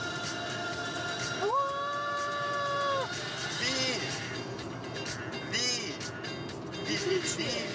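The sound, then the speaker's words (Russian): Busy street traffic with a steady roar and background crowd murmur; partway through, a vehicle horn sounds one loud, sustained blast lasting about a second and a half. “Так, это что там? Тачка.”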